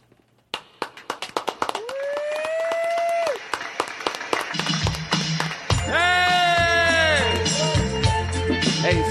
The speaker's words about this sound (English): So, and really applaud. If you don't mind, applaud loud, because that way we can cover, like we can come in and it gets lost. It sounds more real.